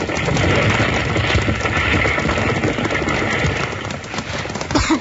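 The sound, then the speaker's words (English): Frantic horses clatter their hooves and whinny in a livery stable that has gone up in flames as they are cut loose, amid a dense, roaring wash of fire noise, loud and continuous throughout, with a sharper burst near the end as the roof starts to cave in, and no talking. “Bill and Jingles rush in to save the horses, and just as they get them loose, the roof starts to cave in”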